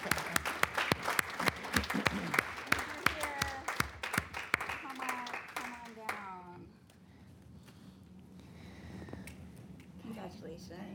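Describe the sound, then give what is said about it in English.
A small group claps in a quick, uneven burst for about six seconds, with voices and laughter mixed in, for the third-place winner in the film category at an awards announcement; the applause then stops and quieter talk continues. “Are we going to clap? Should we clap after every?”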